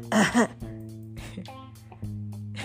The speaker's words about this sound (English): Hold on. Let me clear my throat.